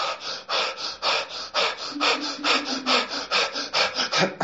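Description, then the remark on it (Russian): A voice demonstrates holotropic breathing: fast, forceful rhythmic breaths with loud, airy inhales and exhales repeating steadily about three times per second, rasping almost like sawing, with no speech. “Короче, ты, реберфинг, дыхательная сессия идет полчаса, холотропное дыхание 75 минут. Ты ложишься на пол и дышишь примерно так.”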